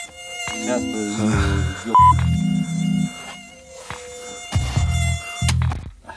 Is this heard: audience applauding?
no